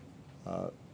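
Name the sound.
sneeze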